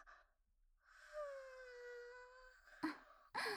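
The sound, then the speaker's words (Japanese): A big, drawn-out yawn, voiced as a long moaning tone that slides down in pitch, followed by a short breathy exhale and a sharp intake of breath. “あらあら、大きなあくびですね。”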